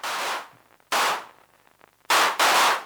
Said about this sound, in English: Now I've turned the volume right down now to protect our ears. The volume is now about 9 o'clock, because that's so ridiculously loud. That's a full noise level, full density, and it's this great big blast of noise. You turn on the reverb.